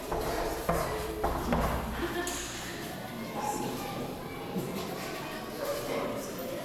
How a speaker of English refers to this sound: You can hear the chairs rustling and the kids are like, ah.